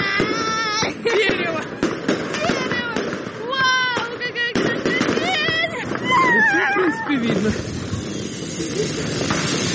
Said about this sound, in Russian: Сейчас пойдем салют. В честь нас салют. Сколько желаний сбудется, сколько раз он щелкнул.